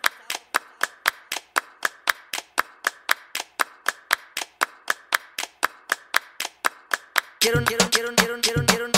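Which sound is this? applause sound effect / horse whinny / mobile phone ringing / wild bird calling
applause sound effect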